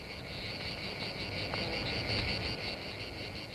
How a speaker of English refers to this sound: And if we were out there, there'd be a lot more noise than there is here, but we can share a little bit of the actual noise of a rainforest. Listen carefully, and you may pick up the hum of the cicadas.